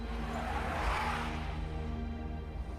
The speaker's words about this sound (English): Cars screech to a halt on either side.